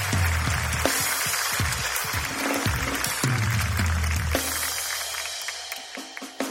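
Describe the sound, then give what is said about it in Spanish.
Sustained applause from a crowd for a band, a dense, steady wash of clapping that holds for several seconds over a low rumbling hum before thinning slightly toward the end. “Un aplauso.”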